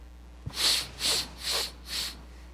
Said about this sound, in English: It's a young female donkey, and she's sniffing the air, looking for a man. That's what it is here.